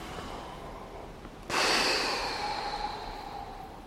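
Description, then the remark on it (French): After a brief hush, a group of fasters at a fasting-and-hiking retreat in France draws a deep breath in together on instruction, a sudden airy rush that swells and holds for a couple of seconds before slowly easing off. Nobody speaks. “Bonne respiration, inspirez.”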